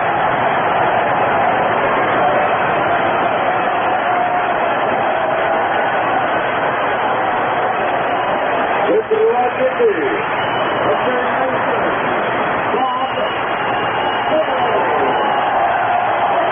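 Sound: stadium crowd standing ovation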